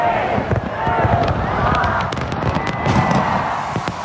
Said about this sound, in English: Before the fireworks over Sydney Harbour, a minute's silence was held to remember the victims of this month's terror attack on Bondi Beach.